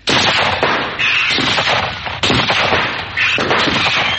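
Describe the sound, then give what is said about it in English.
Loud volleys of musket gunfire from red-coated British riflemen formed in a square, firing salvos of musket balls at an advancing enemy: four heavy bursts roughly a second apart, each a dense crackling roar of many shots that rumbles on before the next salvo. “British riflemen in their red coats, forming their traditional square and firing salvos of musket balls at the advancing enemy.”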